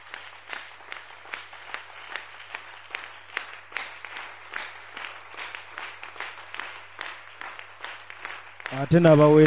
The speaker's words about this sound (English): Let's give a mighty clap to the Lord.